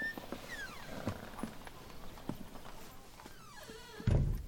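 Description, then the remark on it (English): A shop's front door, left open just a crack, is pushed and creaks slowly open, its hinge letting out long, wavering squeaks between a few light knocks, then a dull thud near the end. No one speaks. “Then he noticed that Miss Helga had left the front door of the shop open just a crack.”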